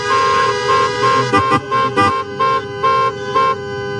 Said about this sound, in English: All right, can everybody hear me? Yeah. Y'all lose up, y'all honk your horn if you can hear me.